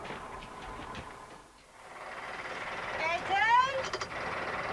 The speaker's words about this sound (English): Sounds to me like a tractor.